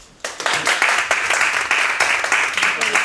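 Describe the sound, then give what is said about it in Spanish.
A group breaks into applause after a brief quiet moment, dense overlapping clapping that stays steady and fairly loud for about three seconds. “¿Un aplauso?”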